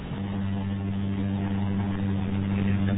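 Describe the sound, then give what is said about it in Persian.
A steady motorcycle engine drone holds for the whole clip, a low, even hum with strong tonal bands and no pauses. “این موتوری چیه اقدر مزاحمونه؟”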